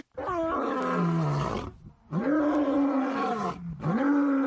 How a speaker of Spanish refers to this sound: ¿Pero qué cosa es esto, caballero? Usted buscó un efecto de león. Que yo no sé si un puerco metido allá en un Guanabacoa, en un corral en La Habana.